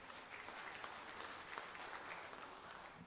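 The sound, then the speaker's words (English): A room full of people applauds steadily, a dense wash of many hands clapping at once that holds at a fairly even level throughout without breaking into individual claps or talk. “Give them a good clap off.”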